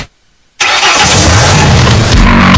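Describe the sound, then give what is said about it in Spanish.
After a brief silence, a car engine abruptly starts up and keeps running loud, a steady rough rumble with a slight rattling edge to it. No voices. “¿Auto te está mandando señales? ¿Ese ruidito?”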